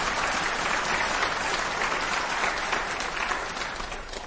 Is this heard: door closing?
no